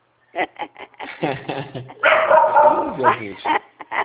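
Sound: dog barking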